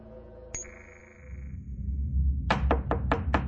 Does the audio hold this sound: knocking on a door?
yes